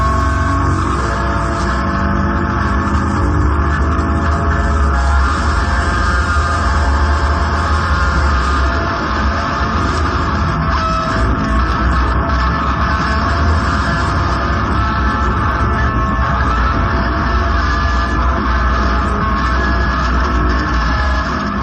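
Christian Marclay's electric guitar, tied to his pickup truck and dragged over asphalt in a performance, gives a loud, unbroken roar of amplified scraping noise laced with sustained droning tones, steady throughout with no voices.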